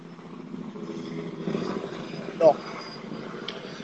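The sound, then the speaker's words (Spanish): A helicopter drones steadily overhead, its low rotor rumble filling the background while people talk over it, with a brief louder burst partway through. “¿Helicópteros negros o qué?”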